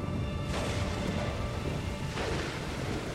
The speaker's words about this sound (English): The rain falls heavily, like a shower of arrows.